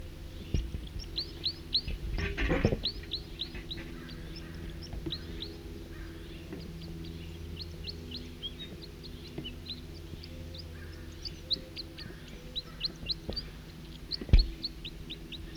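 Two male birds sing at once, their high, quick chirping phrases repeating and overlapping throughout, with a low steady hum underneath and a couple of brief louder knocks.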